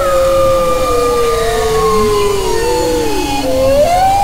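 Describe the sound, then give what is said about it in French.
Bowhead whale song: overlapping, long gliding tones that rise and fall, some moaning and some higher, layered continuously at steady loudness over a low rumbling background, with no talking. “Quant au chant de la baleine boréale, on le compare au jazz, on vous laisse en juger.”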